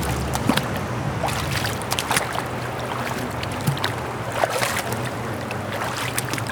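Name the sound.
water flowing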